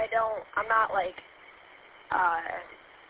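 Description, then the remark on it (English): A thin, crackly voice comes through a small 5-watt handheld radio via a repeater in short bursts, with a steady hiss of static running underneath and filling the gaps between words. “You don't hear me good, it's just static, but still hit the repeater.”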